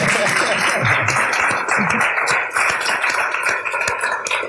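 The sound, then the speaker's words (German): A crowd applauds the men at the back, the specialist staff, steadily for several seconds, a dense, loud wash of many hands clapping at once, with a few faint voices calling out underneath. “Vielleicht mal einen Applaus für die Herren da hinten.”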